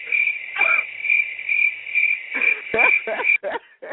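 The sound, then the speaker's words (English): Crickets chirp at night, steadily in a continuous, high-pitched pulsing drone that fills the whole stretch, with a few brief, lower bursts of sound breaking in toward the end. “Now, I hear these motherfucking crickets.”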